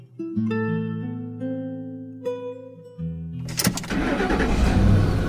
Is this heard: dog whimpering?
no